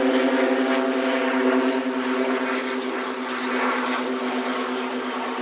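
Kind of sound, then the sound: vehicle, airplane flying overhead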